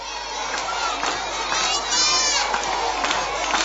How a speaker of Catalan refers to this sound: L'activitat a l'Escolapi s'ha tancat amb una manifestació amb crits de Salvem la Terra pel pati del centre.